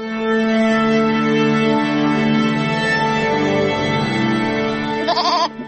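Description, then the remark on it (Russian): A goat on a Lithuanian farmstead bleats loudly in one long, sustained call that ends in a wavering, quavering tremble. No one speaks. “А коза – корова бедняка.”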